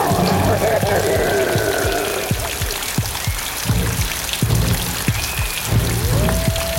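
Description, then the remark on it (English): Heavy drops of blood patter steadily on an umbrella overhead, a dense run of sharp taps over a constant wet hiss, like a downpour of rain. “Oh, God, that's not rain, it's blood.”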